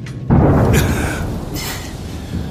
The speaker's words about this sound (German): Lieber Gott, will das Gewitter denn niemals weiterziehen? Hört sich ehrlich gesagt nicht so an.